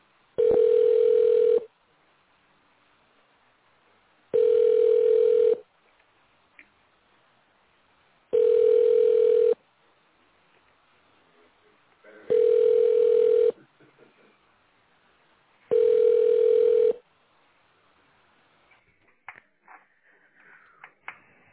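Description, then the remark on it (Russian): A telephone ringback tone sounds five times while a call is being placed: steady, fairly loud beeps of about a second and a half each, separated by regular pauses of a couple of seconds, with faint line noise at the end. “Продолжаем дозваниваться. Оставайтесь на линии.”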